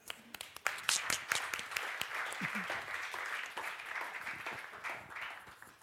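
A crowd breaks into applause as a performer is invited in, a dense wash of many hands clapping at a steady, fairly loud level that holds for several seconds, with a few sharper individual claps standing out.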